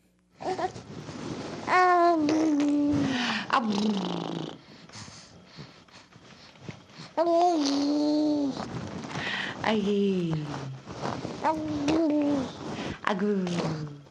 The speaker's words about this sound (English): All right, let's go to this next stage. This one is known as gooing.